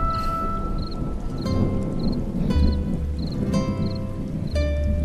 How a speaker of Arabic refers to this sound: المطر غزير. المطر غزير. هذا صحيح.